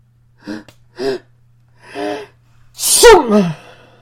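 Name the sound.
loud sneeze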